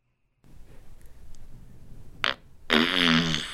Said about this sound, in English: This is the one that said handstand queef. You can tell she's pumping it out. It seems painful. I don't like it anymore. That one was rough.